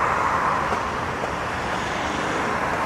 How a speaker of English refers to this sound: Got a few cars coming underneath, you've got a barge coming past.